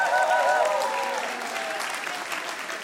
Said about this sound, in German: Nochmal einen riesigen Applaus an den Initiator ….